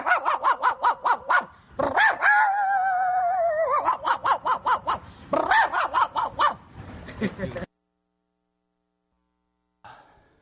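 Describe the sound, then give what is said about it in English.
A person's voice mimics a dog, letting out a rapid string of loud barks with a drawn-out wavering yelp in the middle, then stopping abruptly before a brief faint sound near the end. “Where's that dog one that you did just now?”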